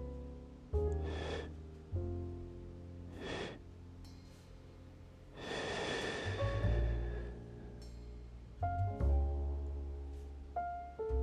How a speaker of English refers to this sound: Now, what we just did there was called bamboo breathing. So all you need to do is breathe in one smooth breath, like so. Hold it in a little bit.